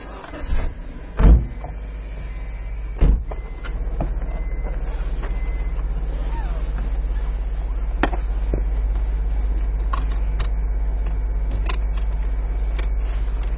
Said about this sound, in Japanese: さあ、今エンジンがかかりました。 エンジンがね、後ろ。から音が聞こえますでしょ、